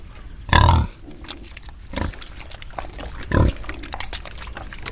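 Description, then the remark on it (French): A curious little female pig, coming over to the people, grunts in three short, loud bursts spaced about a second apart, with soft snuffling and rustling in between. “Ah, une petite curieuse. Elle vient nous voir.”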